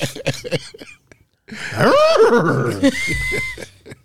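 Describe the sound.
Someone does a loud, drawn-out vocal whinny imitating a horse, with rising and falling wavering pitch, preceded by a few short breathy sounds and followed by a brief huff.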